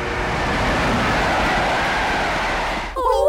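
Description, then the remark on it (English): A train roars past, a loud, steady rushing rumble lasting about three seconds before it cuts off abruptly and a voice briefly cries out. “Okay, we have to get on the back of that train.”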